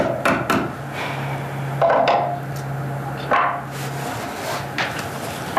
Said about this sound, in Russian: Молотком нельзя долбить круглые сутки в доме.